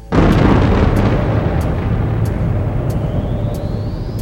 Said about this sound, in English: The long collective enterprise of science has revealed a universe some 15 billion years old, the time since the explosive birth of the cosmos, the Big Bang.